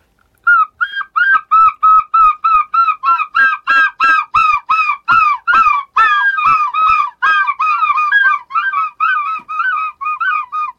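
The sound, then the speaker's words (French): A person imitates a herring gull's call: a long, rapid series of loud, nasal yelping notes, steady in rhythm, with no other sound around it. “C'est le goéland argenté, donc c'est une espèce qui voit ses effectifs plutôt augmenté, c'est une espèce qui se porte bien et qui va dans les terres la journée et qui le soir rentre sur la baie de Somme pour aller dormir”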